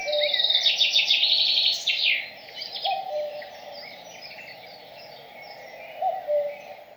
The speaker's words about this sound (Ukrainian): Чуєте? Зозуля кує, радіють люди.